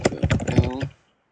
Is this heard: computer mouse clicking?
yes